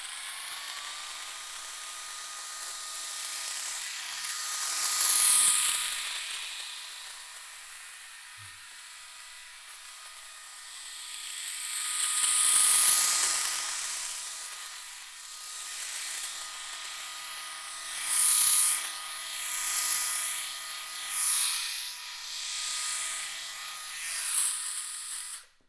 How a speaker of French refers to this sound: Pour ceux qui ont pu faire l'expérience de The Barber Shop sur Internet, vous avez pu tester l'expérience du rasoir.